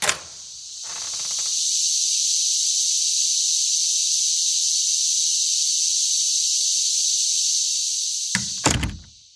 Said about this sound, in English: Here on the U.S. East Coast, Brood 10 cicadas are having an increasing impact on industry. For more on that, we go to the cicadas right outside our office door.